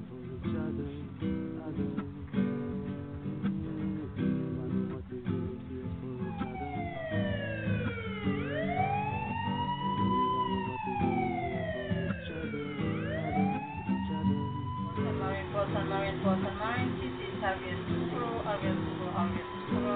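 A police patrol boat siren wails at sea from the police patrol boat RVS Tukoro, its pitch sweeping up and down in long repeated arcs over a steady low engine rumble, loud and continuous throughout.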